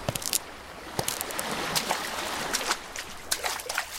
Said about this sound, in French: Prends le micro, comme ça, pour enregistrer le bruit des vagues de près.